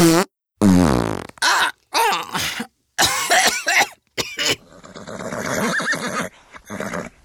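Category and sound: human body sound, fart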